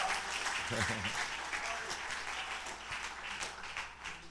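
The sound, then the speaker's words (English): An audience claps steadily for a preacher, a dense, continuous wash of many hands at an even loudness for several seconds, with a brief voice rising underneath early on. “So when somebody preaches, you should clap.”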